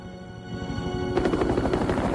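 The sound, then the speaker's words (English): A helicopter rotor thuds in a rapid, steady chop, loud, over a constant engine roar that brightens into a harsher, wider rush partway through, as the helicopter carries a person dangling beneath it on a long harpoon wire. “Alex is carried away, dangling underneath the chopper.”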